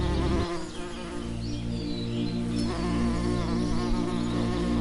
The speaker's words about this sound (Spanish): Acércate a la abeja con respeto y calma.